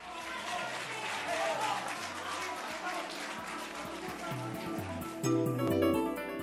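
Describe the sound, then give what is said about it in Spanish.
Steady, dense applause greeting Teresa Romero as she left a Madrid hospital on 5 November after recovering from Ebola: a continuous crackle of many hands clapping, with voices talking over it and the clapping swelling louder toward the end. “Aplausos que recibieron a Teresa Romero al salir del hospital el 5 de noviembre.”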